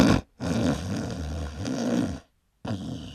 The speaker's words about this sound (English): The snoring.